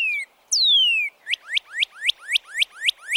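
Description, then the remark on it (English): A northern cardinal sings loudly: two long, clear whistles slurring downward, then a quick run of about eight bright, sweeping notes repeated in steady rhythm, with no voices. “The northern cardinal's loud, repetitive, two-toned song is unmistakable.”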